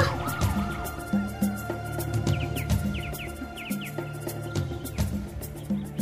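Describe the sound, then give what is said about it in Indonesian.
A police patrol car siren wails steadily as the car passes by an evacuation shelter, moderately loud and sustained throughout, with a few short bird chirps scattered over it and no one talking. “Ternyata itu hanya suara sirine mobil patroli yang lewat di tempat pengungsian.”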